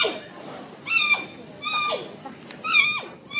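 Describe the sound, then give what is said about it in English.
A giant panda cub bleats three times in a row, short goat-like calls that start high and slide downward, each with a bright, harmonic-rich tone and nobody talking. “There are honks, there can be huffs, but there is what the noise most people hear is a bleat.”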